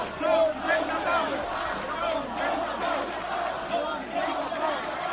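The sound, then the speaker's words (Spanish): A large crowd of radical protesters shouts in unison at the Mossos police, calling them an occupation force and claiming to be people of peace: a dense, sustained roar of many raised voices with rhythmic chant-like swells, steady and loud throughout with no individual speech standing out. “Estos radicales han gritado contra toda evidencia que son gente de paz.”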